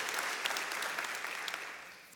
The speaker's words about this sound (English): Would you give God a hand clap of praise this morning?